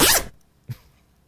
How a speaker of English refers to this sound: Open up that zipper in the wall. Open it up.